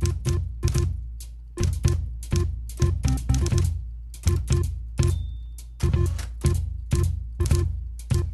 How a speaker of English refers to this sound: If you would like to hear some more clever musical applications of the typewriter